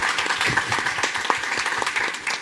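A crowd applauds steadily, many hands clapping in a dense, continuous patter with a few sharper individual claps standing out, fairly loud throughout.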